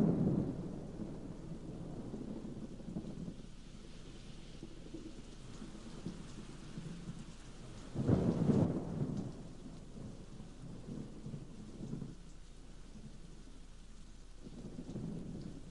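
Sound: rain falling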